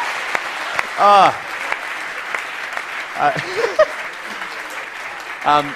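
An audience applauds steadily throughout, a dense wash of clapping, with a few loud whoops and cheers rising above it at intervals.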